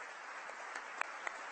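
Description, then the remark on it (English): Audience applause at the Computer History Museum, welcoming John, a historian with its iPhone Project: a dense, steady wash of many hands clapping, with a few sharper individual claps standing out, no voices. “Please give John a warm round of applause.”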